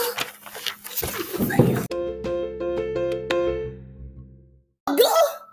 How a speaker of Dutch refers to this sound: Ding dong!